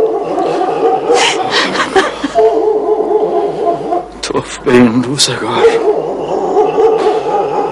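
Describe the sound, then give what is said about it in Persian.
Dogs bark repeatedly in loud bursts, overlapping with a person speaking; the barking comes and goes in clusters over several seconds. “این سگای بامونده برشیده انگلشون رو جر میدن.”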